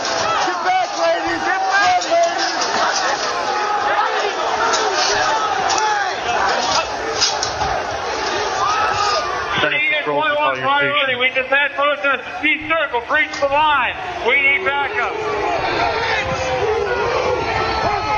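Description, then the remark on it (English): A loud, dense angry crowd in America roars with many overlapping raised voices, shouting and chanting continuously; partway through the noise shifts to sharper, rhythmic bursts of yelling. “Oh my God, an angry crowd.”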